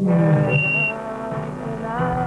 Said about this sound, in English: And you, who's that whistling?